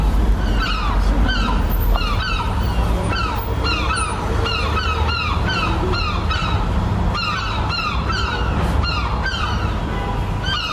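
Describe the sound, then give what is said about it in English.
A dense chorus of seagulls in Dublin calling over and over, recorded in Dolby Atmos; loud, harsh cries overlap continuously with a steady background rumble and no voices. “And then we have seagulls from Dublin.”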